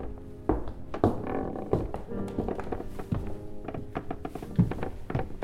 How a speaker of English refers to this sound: he made his way up the creaky staircase.